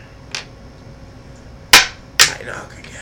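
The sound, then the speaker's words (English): Three sharp knocks, a faint one followed by two loud, crisp raps in quick succession, each ending in a short ringing decay. No one speaks. “I knock again.”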